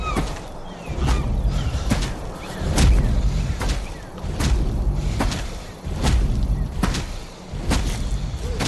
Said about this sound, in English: Here's a pretty different sound for monsters. This is Footsteps of the Monster Carol, carrying the boy Max from the new 2009 movie Where the Wild Things Are.